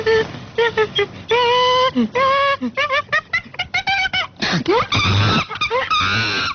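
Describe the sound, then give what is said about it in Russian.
A monkey calls loudly and excitedly in a rapid series of shrill hoots and screeches, the bursts coming in quick, uneven succession with no talking. “Обезьяна.”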